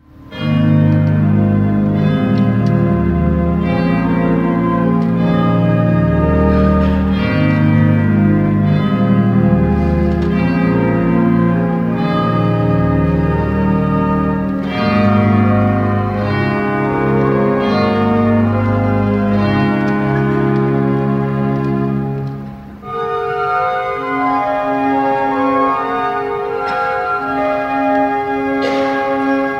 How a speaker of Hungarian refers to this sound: Andalfi Zsíros Dezső Karácsonyi Harangok című művével mutatta meg a debreceni református nagytemplom ünnepi hálaadó istentiszteletén az ország egyik legszebb hangú orgonájának adottságait Sepsi Károly nyugdíjas lelkipásztor orgonaművész.